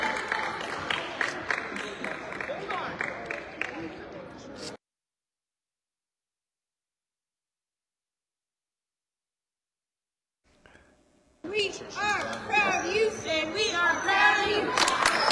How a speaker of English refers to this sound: Some Wolverine fans cheering for number 21.